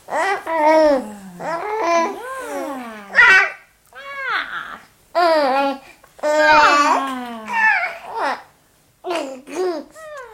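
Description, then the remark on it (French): A baby babbles and lets out little high cries and squeals in short bursts with brief pauses, fairly loud, with no adult speech. “C'est quoi ces petits cris?”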